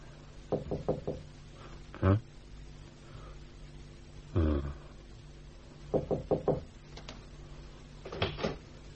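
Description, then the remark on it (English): Several rounds of sharp knocking on a door, delivered in quick bursts of three or four raps with short pauses between, clear against a quiet background, with nobody answering. “And if you please, I knocked and knocked and nobody came.”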